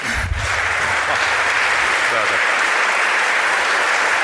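A crowd gives another round of applause, a dense, even wash of many hands clapping at a constant loudness throughout, with a brief low thump near the start and no one speaking.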